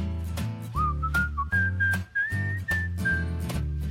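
A person whistles a lilting melody, clear and bright, over a bouncy instrumental accompaniment with a steady rhythmic beat; the whistled notes glide and hold, prominent.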